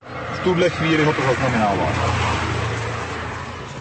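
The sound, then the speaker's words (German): A red Renault drives past and is caught by a police radar, with a steady, fairly loud rush of engine and road noise that slowly fades, while a voice is briefly heard talking near the start. “Ein vorbeifahrender roter Renault wird vom Polizeiradar eingefangen.”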